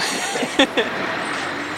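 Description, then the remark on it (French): A refrigerated transport truck at a roadside inspection gives off a steady, broad hiss and hum throughout, broken by two brief, higher-pitched squeaky bursts in quick succession near the start. “Transport frigorifique.”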